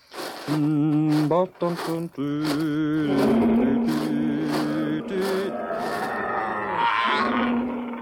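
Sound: lion roaring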